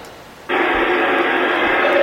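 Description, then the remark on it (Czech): A recorded strange, harsh roaring screech, a so-called lion roar that sounds like a dying lion, cuts in abruptly and holds as one loud, raspy, noisy cry for over a second and a half, with no talking over it. “A pak vám pustím ještě teda lví řevy, což jsou takový podivný skřeky, který vypadá jak lev.”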